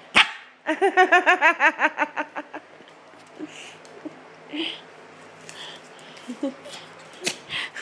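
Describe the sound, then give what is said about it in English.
A dog wanting to play lets out a rapid run of about a dozen high, excited yipping barks that taper off, followed by quieter scattered snuffles and soft noises. “You gonna bark at it? Come on. Bark.”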